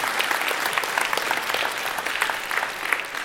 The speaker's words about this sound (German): 6-mal, sehr gut. Ein Applaus. Ja, bravo.